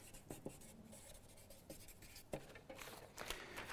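A pen scratches across paper in short strokes with brief taps and pauses, a soft continuous scribbling with no one talking.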